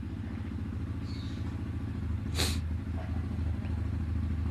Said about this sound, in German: Jetzt schauen wir mal, was überhaupt für ein Auto ist. Ach, so ein Quad, ey.